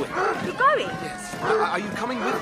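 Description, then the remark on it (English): A dog barks and yips in short, high bursts mixed in with people talking, the yelps rising and falling in pitch several times across the moment. “Oh, sorry about the dog.”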